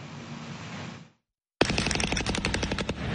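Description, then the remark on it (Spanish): A loud, rapid burst of automatic gunfire rattles off in quick repeated cracks after a steady rushing noise cuts to a brief silence, during days of incessant gunfire in neighborhoods of western Caracas, Venezuela; no one speaks. “Después de días de fuego incesante, hoy quedan amargos recuerdos.”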